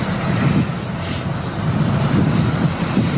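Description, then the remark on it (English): A steady, loud jet engine roar fills the scene, a broad rumbling drone with strong low-end energy, as the Patriots team jet arrives on the tarmac. “He revels in the moment the Patriots jet arrives on the tarmac.”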